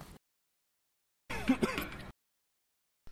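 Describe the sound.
A man nearly chokes on a still-burning cigarette he has swallowed: a single strained, gasping choke with a rough throaty groan, fairly loud, lasting under a second between stretches of silence; no words are spoken.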